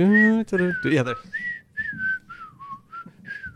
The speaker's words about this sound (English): I thought you were going to start whistling the theme. Yeah, there.